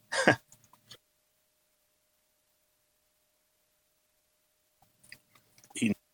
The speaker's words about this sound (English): I'm sort of like chewing on lunch right here. So if you hear me chewing, that's what that is. It's like a tater tot from Sonic.